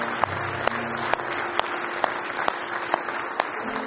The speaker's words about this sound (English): A good hand clap of praise this morning.